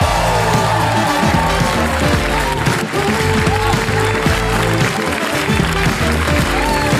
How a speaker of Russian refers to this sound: Прямо сейчас на этой сцене Сергей Зорик, ваши аплодисменты.